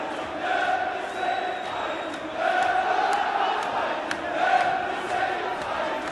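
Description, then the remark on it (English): A large crowd at a protest shouts and chants continuously, a loud dense roar of many voices that swells in rhythmic surges, with no single voice standing out. “How many federal informants are in that crowd?”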